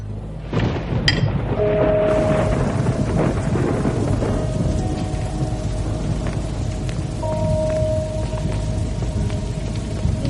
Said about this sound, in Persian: اگه میشه بشینیم تو حیاط. تو این بارون؟ بله. بله.